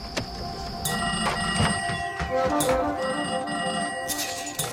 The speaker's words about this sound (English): Sierra McCormick plays Faye, a young switchboard operator in a small town in New Mexico. And in this scene we're about to play, she's suddenly overwhelmed with phone calls.